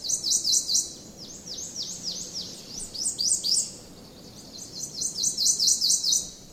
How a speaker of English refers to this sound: The Prothonotary Warbler can be found throughout the southeastern U.S., including here in South Carolina's Congaree Creek Heritage Preserve. Its distinctive song cuts through the forest in springtime.